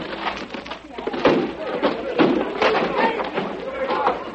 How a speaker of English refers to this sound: All right, men, break down the door.